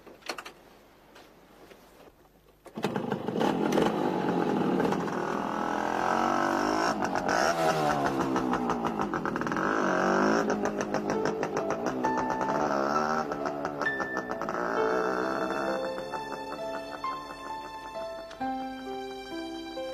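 A car engine kicks in loudly after a quiet start, revving with rising and falling pitch as it drives, then eases off while steady musical tones emerge near the end.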